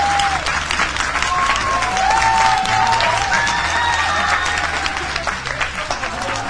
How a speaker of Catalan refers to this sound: Anem a fer una cosa, com que el tema dels aplaudiments és molt important, anem a veure aquesta claca, si ha après la lliçó, l'Institut del Deltebre, com aplaudiu els vostres companys. A veure.